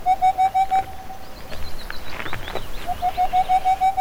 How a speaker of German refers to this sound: Der Raufußkauz, eine seltene Eulenart, ist bei uns unterwegs und die fühlen sich eben wohl, weil sie so schöne Dunkelheit haben bei uns.